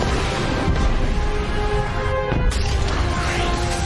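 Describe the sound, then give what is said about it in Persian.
A sonic boom as Supergirl breaks the sound barrier: a dense, loud roaring rush fills the whole stretch, punctuated by a sharp crack partway through, with no voices. “وای همین الان خواهرم دیوار صوتی و شکست.”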